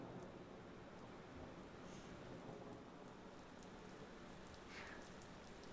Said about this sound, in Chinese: 我其实还是很喜欢雨声的，它能让我安静下来。